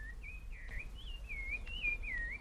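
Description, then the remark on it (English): A calandria (mockingbird) sings a continuous, warbling run of clear whistled notes that slide up and down, over a steady low hum of bees in the background. “That's a calandria. Apart from the bird song, I can hear the hum of the bees.”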